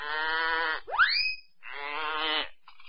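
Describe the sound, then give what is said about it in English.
A little goat bleats in two long, wavering calls, with a brief rising squeal between them, followed by a faint short sound at the end. “Little goat bleat.”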